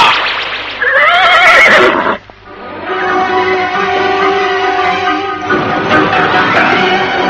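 A horse gives a loud, shrill whinny with a wavering pitch. After a brief pause, a longer, steadier neigh follows and fades into a rougher snort at the end. No one speaks.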